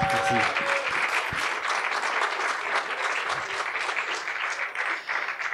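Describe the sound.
Sustained audience applause, a dense, steady crackle of many hands clapping that holds at an even loudness throughout, with a brief tonal voice-like sound at the very start.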